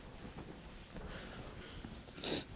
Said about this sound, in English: My apologies for clearing my throat often here this morning, one of those times of the year.